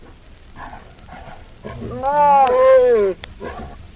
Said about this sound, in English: The title of this this file is tiger copulation.